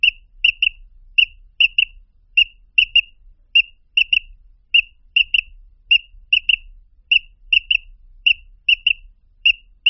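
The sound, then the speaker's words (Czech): A quail decoy call used to lure male quail, imitating the bird: short, high, piping chirps in quick pairs and triplets, repeated at a steady rhythm throughout, clear with no voices. “Toto byl hlas vábničky, na kterou lze přilákat kohoutka křepelky.”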